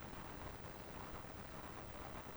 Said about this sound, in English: Now, in the background, I believe you can hear the tough truck. Let's see here.